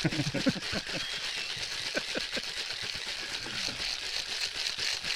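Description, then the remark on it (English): A cocktail shaker rattles with ice at a distillery in a fast, steady rhythm, a dense clattering that runs for about five seconds at a constant loud level, with faint voices in the background. “You shake it up.”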